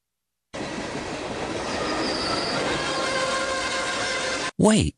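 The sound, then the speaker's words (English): A train, called the 'Trubisky train', rumbles steadily along the rails for several seconds, loud, with metallic screeching tones layered over the low roar, slowing before it cuts off abruptly into a brief burst of voice. “Wait, is that the Trubisky train?”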